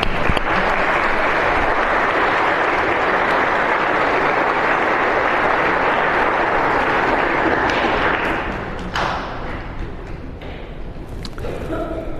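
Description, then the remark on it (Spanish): A church audience at Mass breaks into sustained applause for the consecration of the parish to Saint Joseph, a dense, steady wash of clapping that holds loud for about eight seconds, then thins and tapers off with a few scattered claps. “¿Aplauso o no?”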